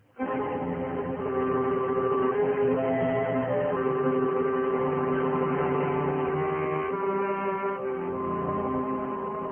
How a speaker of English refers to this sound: You hear that bell, Miranda? I remember how it rang when Joanna and I were married. She said it was a heavenly bell that would ring for us until death.